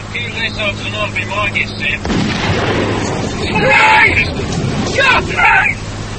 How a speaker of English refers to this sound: The 10.5 centimeter shell was radar guided from a flak battery at Nijmegen. The explosion was 30 feet below them. The blast punched a hole in the side of Orange 5 feet across.